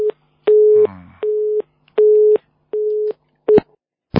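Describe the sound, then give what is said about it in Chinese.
A telephone busy tone after a dropped call pulses in steady on-off beeps, about six of them, clear and fairly loud with no voices, ending in a short click of noise. “哎呦，跳掉了，这电话是有问题。”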